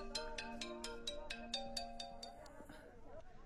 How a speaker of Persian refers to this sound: اجازه بتیم مادر جان موبایل ما جواب بتون.